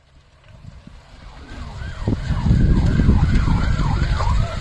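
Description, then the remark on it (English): Emergency sirens wail in rising and falling sweeps, growing louder as they approach, over a dense, crackling roar of fire: a lobster storage pound burning in the night, early Saturday, in Middle West Pubnico, Nova Scotia, recorded by a bystander. No one speaks. “So the crackling and sirens you're hearing here are from a video shot early Saturday by a bystander woken up in the middle of the night in Middle West Pubnico, Nova Scotia.”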